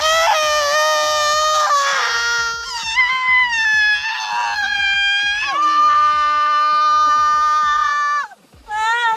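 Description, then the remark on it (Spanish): Several women's high-pitched voices shriek together in long, sustained screams, loud, holding steady wails for about eight seconds before breaking off abruptly near the end. The dressed-up women have got out of a car and hold hands as they scream. “y de repente unas señoras, hartitas de su trabajo, de su pareja y hasta la coronilla de sus mochuelos, aparecen customizadas a lo Coronel Tapioca, bajan del coche, se agarran de las manos y se ponen a pegar gritos.”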